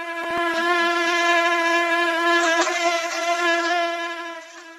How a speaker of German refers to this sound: Mücken können schon manchmal nervig sein, besonders wenn sie hungrig sind.